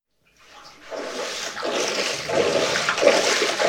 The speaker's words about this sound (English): The splashing. Oh my God, it's so good.